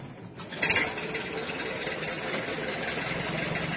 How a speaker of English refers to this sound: He looks at the car. I wonder, he thinks, if this type of car starts easily. In a dream, he starts the car.